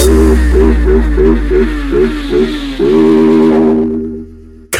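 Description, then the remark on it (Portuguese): Someone makes a motorcycle sound with their voice: a run of quick, pulsing revs, then one long, steady engine drone that fades away. Loud, with no talking. “Não na máxima da minha moto invisível.”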